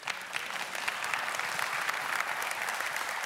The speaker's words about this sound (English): It's okay to clap.